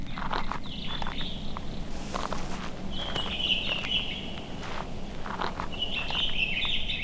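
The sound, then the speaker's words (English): Birds chirp in three bright, trilling bursts over a steady outdoor hiss in a marsh, while footsteps crunch along underneath. No one speaks. “Aren't those birds glorious?”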